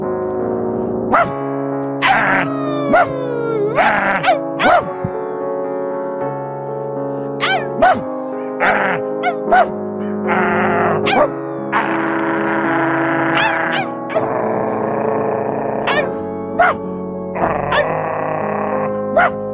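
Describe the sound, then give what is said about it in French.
A man's voice imitates a dog, with a run of sharp barks mixed with longer, wavering howls, loud and alone, repeating at an uneven pace throughout. “Alors je voudrais savoir si vous parlez vraiment chien.”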